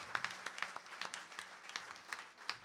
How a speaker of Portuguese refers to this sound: Uma grande salva de palmas a todos vós.